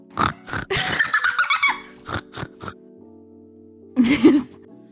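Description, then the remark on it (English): A person imitates a pig with a series of snorting, oinking grunts, several quick bursts, with steady background hum between them. “Make oinking noises.”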